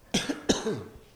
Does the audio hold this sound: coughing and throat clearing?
yes